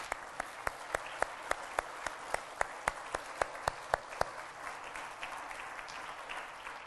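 An audience applauds, with a run of sharp, evenly spaced claps standing out for about four seconds before they drop away, leaving a softer wash of crowd clapping.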